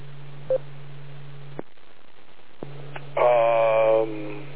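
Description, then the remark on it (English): An EchoLink repeater transmission with its output in Montreal comes through a VHF radio receiver: a steady low hum with a short beep, a brief drop-out, then the carrier returns with a louder, buzzy tone burst near the end. “Well, there's an echo link over there. Okay, that must be what I'm receiving, because it's literally overwhelming my front end here.”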